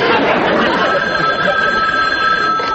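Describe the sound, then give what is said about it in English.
An old-style telephone bell rings loudly and continuously, a steady metallic jangle that fills the whole moment without pause. “Oh, I'd better answer the phone.”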